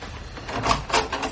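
A door being opened as a visitor arrives: a short run of scraping, rattling bursts that swell and fade over about a second, moderately loud, with no voices.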